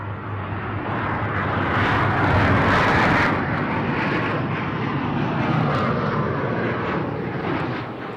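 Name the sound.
airplane engine roaring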